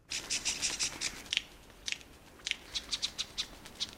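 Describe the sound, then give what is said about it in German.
A male superb lyrebird's courtship song made of mimicked alarm calls of various bird species: rapid, sharp, scratchy chips in quick bursts, some clustered, some spaced, moderately loud, with no talking. “Und für die Vogelweibchenohren, da klingt es sogar bedrohlich, weil der raffinierte Vogel, der macht da die Alarmrufe verschiedener Vogelarten nach.”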